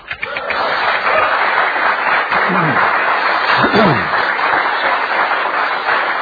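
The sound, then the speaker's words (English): A crowd claps steadily and loudly at a service in King's House 1, a dense wash of applause lasting several seconds, with a few voices and faint cheers mixed in. “So you can tell by the sound of the applause, we have plenty of voices of faith here tonight.”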